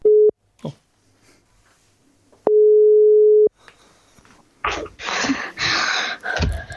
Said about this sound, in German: Oh, da atmet es schwer.